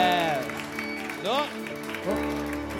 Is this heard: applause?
yes